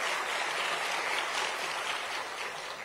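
Steady applause from an audience, a dense crackle of many hands clapping at an even level throughout, with no voices standing out.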